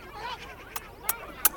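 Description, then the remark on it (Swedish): A crow peeking out of a basket caws three times in quick, harsh bursts, each louder than the last, after some softer warbling bird sounds. “Och i Lisas korg så sticker en välbekant näbb fram. Olydiga Lydia.”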